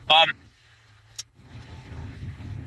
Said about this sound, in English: I'm just trying to merge into traffic here while I'm telling you this on my way home.